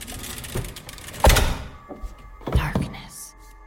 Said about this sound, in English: Slid me in, slammed the door at my feet.